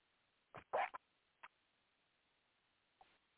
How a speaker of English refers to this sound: She's just drinking. Well, she's going for your water jug there, so give her some more. You got to fill it up twice. Fill it up again. Don't argue, just fill it up again. We got a dog last week. She's 10 years old and drinks water like a fish.